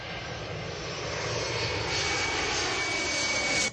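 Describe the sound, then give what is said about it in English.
A steady, droning airplane engine as Flight 116 leaves the gate at Corinth International Airport and taxis to the runway for Rome, a broad roaring hum with a faint high whine, swelling slightly louder toward the end before cutting off. No voices. “As we leave the gate and taxi to the runway, I can see we are on time for our 9:45 departure from the Corinth International Airport to our destination in Rome.”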